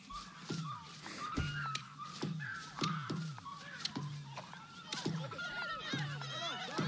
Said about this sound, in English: Birds.